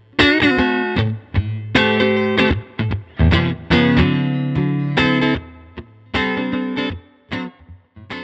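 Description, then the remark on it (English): A clean electric guitar, a '61 Strat on the neck pickup, plays through a tube amp, a Super Reverb with four 10-inch speakers, with the overdrive pedal off, strumming bright chords in short rhythmic bursts with brief gaps between phrases, fairly loud, with no voices. “You're hearing the amp without the effect right now.”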